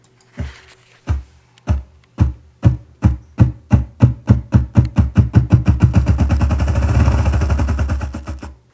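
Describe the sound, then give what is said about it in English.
Low, muffled thumps begin slowly and far apart, then speed up steadily into a rapid whirring roll before fading out, the characteristic accelerating drumming of a ruffed grouse in the woods. “Well, it's the drumming sound made by a ruffed grouse.”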